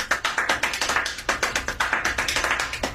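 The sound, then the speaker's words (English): Extremely fast hand clapping done with two hands held straight up, palms facing each other, very even, with roughly seven or eight sharp claps per second running steadily for a few seconds, crisp and fairly loud with no voices. “extreme, super-fast clapping.”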